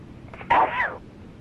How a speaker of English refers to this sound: And I'm about to sneeze.